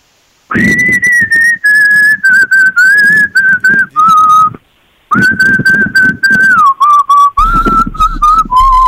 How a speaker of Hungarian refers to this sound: Most ezt tudnunk kell, gyerekek. Fütyül, de még egyszer megfejtjük.